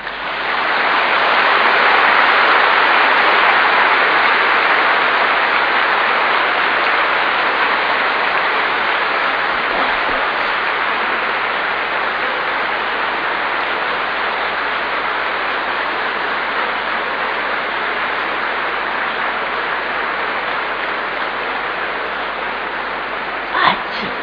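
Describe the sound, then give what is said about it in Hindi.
A large audience claps steadily for over twenty seconds, a dense, even wash of hand claps that blurs into a rain-like roar with no speech on top. “बाप दादा खुश है, इसकी ताली बजाओ।”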